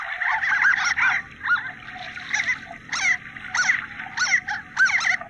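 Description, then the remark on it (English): Harlequin ducks give a rapid series of high, squeaky, nasal calls in irregular bursts over a steady low rumble of rushing water. “Yeah, the ducks are not known for their vocal abilities, but harlequin ducks are... one of these coastal species that actually, they nest inland and often on these sort of faster moving rivers.”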